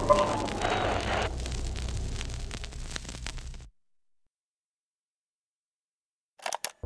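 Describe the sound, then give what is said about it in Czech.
A loud, roaring rocket blast as police colonel Saska Hinterkrábová fires a bazooka at the monster Megasukuna, hitting it in the chest, with a rumbling explosive impact that runs for a few seconds, then silence, then a couple of brief sharp bursts. “Má bazuku. Co to dělá? Chce vystřelit po nestvůře.”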